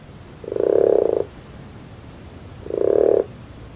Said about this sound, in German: Und ja, das ist ein einmaliges Spektakel. Also die ersten warmen Tage beginnt hier die Krötenwanderung und das ja, ist manchmal wie aus einer anderen Welt, wenn dann hunderte Kröten hier an die Kreuzer Teiche strömen, um zu laichen.